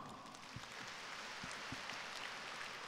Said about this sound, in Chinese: 鼓掌。